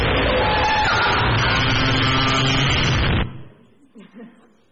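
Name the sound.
blue whale call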